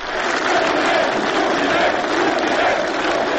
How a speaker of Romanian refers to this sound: Mulțimea a scandat numele liderului de la Kremlin.